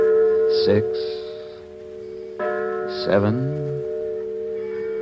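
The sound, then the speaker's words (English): A church bell strikes twice on a Sunday evening, ringing out the time as evening services are about to begin; the strikes come a few seconds apart, each deep clang leaving a long, humming ring that hangs in the air and slowly fades between tolls. “He shifted and looked across the yards at a signal light, and I heard the tolling of a church bell.”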